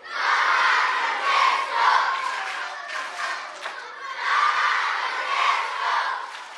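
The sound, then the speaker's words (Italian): A crowd of excited catechism children cheering and shouting together in a parish theatre hall in Castelverde di Lunghezza, Rome, while competing to take selfies with the Pope, loud, a continuous roar that swells and dips but never pauses, with no single voice standing out. “Grande l'entusiasmo dei bambini che fanno a gara per farsi selfie con il Papa.”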